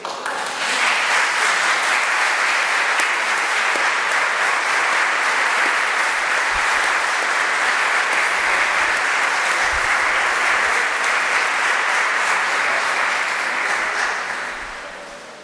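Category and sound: crowd, audience applauding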